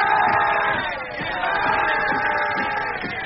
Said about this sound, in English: The Britons roar defiance.